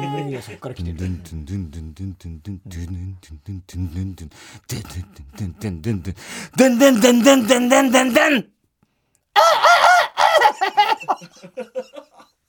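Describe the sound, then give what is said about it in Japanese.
A man's voice makes a run of sharp, high, rhythmic squawks and clucks, imitating a chicken, following earlier lower vocal noises, with a short pause before another burst of squawking. “ニワトリ。 ニワトリ。”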